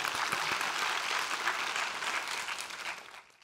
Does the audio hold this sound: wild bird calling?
no